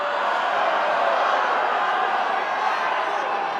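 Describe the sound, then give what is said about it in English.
St. Peter's fans in a basketball arena roar and cheer during an NCAA tournament game against Tennessee, a dense, steady wash of voices that stays loud for the whole few seconds, with no single speaker standing out. “Despite a tough start against Tennessee, these fans stayed loud throughout the game.”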